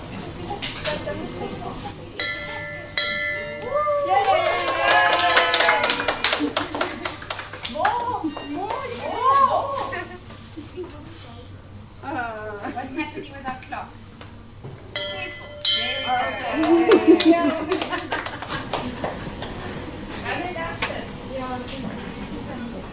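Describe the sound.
A bell rings with bright, sustained metallic tones that hang and fade, sounding at the start and again later, while voices talk and sing over it throughout.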